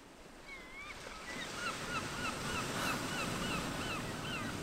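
A steady wash of ocean surf rolls continuously at a beach, with a series of repeated high, wavering bird calls crying out over the waves throughout.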